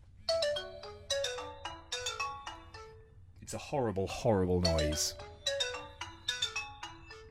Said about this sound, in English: they remixed the old Nokia ringtone with pan pipes. Yeah, that's exactly what it sounds so like.